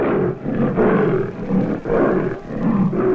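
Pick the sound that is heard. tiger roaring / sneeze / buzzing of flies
tiger roaring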